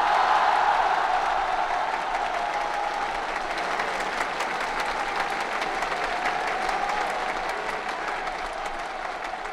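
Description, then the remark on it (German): A large crowd of German young people applauds and cheers loudly for French President Charles de Gaulle during his visit to West Germany, a dense, steady wash of clapping with voices mixed in, continuing unbroken for the whole stretch with no talking. “Den Jubelruf der Jugend Deutschlands noch im Ohr und im Herzen beendete Frankreichs Staatschef”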